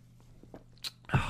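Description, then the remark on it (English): A sip of fizzy Diet Pepsi: a few faint mouth clicks, a short wet slurp, then a louder gulping swallow at the end, with no one talking. “Let me take a sip of this cancer Pepsi here.”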